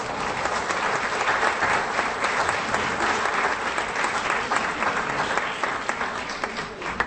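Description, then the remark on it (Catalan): A concert audience claps steadily for several seconds as a composer is invited onto the stage, a dense, even wash of many hands with no pauses or swells, fading slightly at the end. “si pots acompanyar-me aquí a l'escenari, l'aplaudim, si us plau.”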